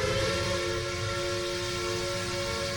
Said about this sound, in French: Voilà. C'était vraiment des vieux trains.